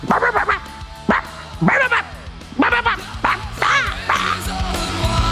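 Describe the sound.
A dog barks and yips in a quick, irregular series of loud bursts, with short pauses between them and a steady background hum throughout.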